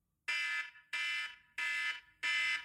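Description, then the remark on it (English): A 5-minute timer alarm goes off, marking time up on a film discussion, with four loud, evenly spaced electronic beeps, each a bright, buzzy tone lasting about half a second, with no talking. “So I'm gonna set my timer, which is what I'm doing now”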